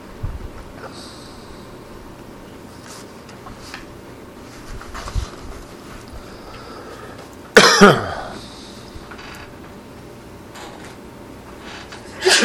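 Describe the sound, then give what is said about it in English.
A single sharp, loud sneeze or cough bursts out about two-thirds of the way through, against an otherwise quiet hum, with a faint second burst right at the end. “Bless you.”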